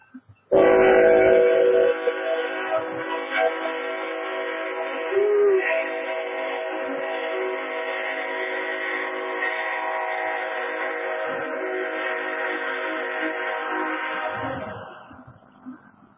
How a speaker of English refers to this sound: here comes the train.